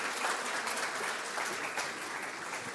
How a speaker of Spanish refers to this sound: Así que con un fuerte aplauso,